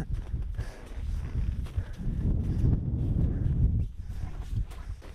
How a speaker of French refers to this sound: Alors comme c'est une cheminée, il y a le vent. Il fait froid.